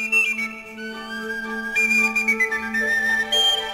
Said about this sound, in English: So he looked for ideas, which led him to pieces like the Pied Piper Fantasy, built around the famous story, and written for the flute master, James Galway, who also solos on Tin Whistle.